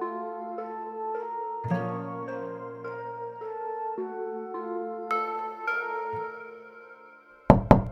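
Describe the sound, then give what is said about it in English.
Sustained musical tones play, then at the very end come two loud, sharp knocks on the front door of a home in quick succession. “brother and his friends had been knocking for 10 minutes. Why wasn't she answering the door?”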